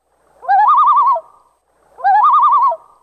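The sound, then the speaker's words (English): A loon's tremolo call, known as the crazy laugh, rings out twice, each burst a loud, quavering, rapidly wavering laugh-like wail of under a second, separated by a short silence, with no voices. “And then, of course, the tremolo, it's called the crazy laugh. It can sound, well, crazy.”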